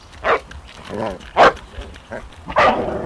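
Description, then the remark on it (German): A large black dog on a forest path barks loudly several times at a jogger, with a low rumbling growl between the sharp, irregular barks. “Plötzlich springt ein grosser schwarzer Hund auf dem Waldweg auf einem zu. Bild und knurrt, vom Herrchen keine Spur.”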